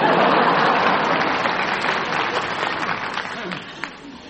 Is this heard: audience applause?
yes